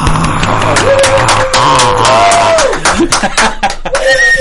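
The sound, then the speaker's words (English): A loud burst of crowd cheering from an applause sound-effect button on the Big D Radio Show after a band's performance, with whoops, scattered claps and laughter blended into a dense, continuous roar lasting a few seconds. “Look, all we need is one of those applause buttons.”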